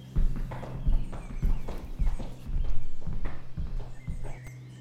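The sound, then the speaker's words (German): Heavy hooves thud and clop in a steady walking rhythm as a cow stops and then tramples away across a cow meadow, with low rumbling underneath and no voices. “Die Kuh hält an und verlegen trampelt sie davon.”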